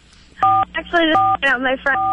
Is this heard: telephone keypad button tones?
yes